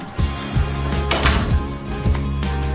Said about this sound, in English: In case that wasn't obvious, the pizza guy shows up and delivers the pizza, which she pays for before shutting the door.